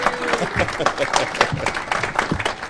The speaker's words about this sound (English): the beer itself gets applause.